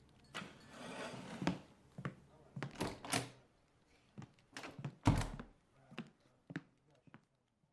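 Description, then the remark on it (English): A door is pushed shut with a heavy thud, preceded by scattered knocks, shuffling and handling noises, then a few lighter taps trailing off into quiet. “Shut the door on your way out.”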